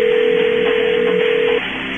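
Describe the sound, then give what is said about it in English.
A telephone dialing tone holds steady and fairly loud over a thin, muffled phone line as a call is placed to a house, then cuts off abruptly near the end, leaving faint line hiss. No one speaks. “All right, let's call Kevin's house, see if the exterminator got the job done, because apparently there's trouble at paradise.”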